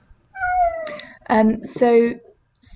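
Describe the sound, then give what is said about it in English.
A female cat meows three times, each call loud and drawn out with a falling or wavering pitch, separated by brief pauses, with a faint low rumble underneath. “I'll start that again while the cat has a slight”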